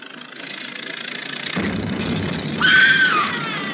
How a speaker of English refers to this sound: What was that? What was what? Didn't you hear it? Somebody screamed. Huh? No, I didn't hear nothing.